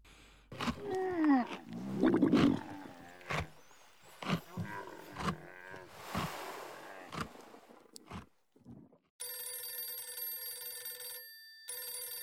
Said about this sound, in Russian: Настойчивый звонок местного телефона разорвал тишину квартиры.